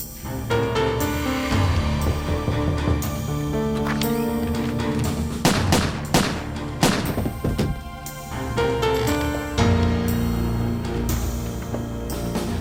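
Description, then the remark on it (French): Several sharp, loud gunshots crack out in a quick, uneven burst inside a home on the evening of Saturday, January 16, 1982, after a knock at the door, over a continuous tense musical score that plays before and after them. “Les coups de feu ont fait beaucoup de bruit, je m'en souviens nettement.”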